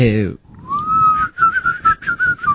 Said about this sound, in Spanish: Tú sigue bebiendo y te vas alejando lentamente. Sí. Y mientras te alejas, nosotros hacemos los silbidos.